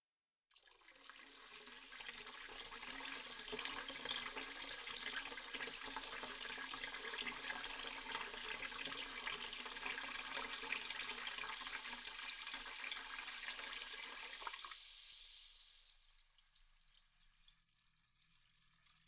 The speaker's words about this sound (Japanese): それじゃあ次は、施術台にお湯を張って入浴タイムです。このままお湯を張って、寝湯のような感じで入浴できますから、そのまま待っていてくださいね。今日は、シュワシュワ気持ちいい炭酸風呂ですよ。お湯、入れていきますね。